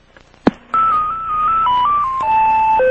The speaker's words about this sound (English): If you have any questions, please leave your message after the tone. Thank you for calling.